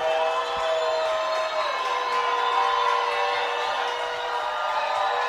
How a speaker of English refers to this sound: Sandpoint's crowd trying to make some noise.